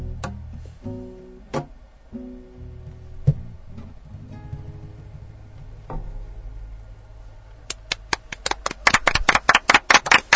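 After a stretch of soft music with scattered knocks, hand clapping after a performance starts near the end, quick, sharp claps growing denser and louder, like a small audience applauding.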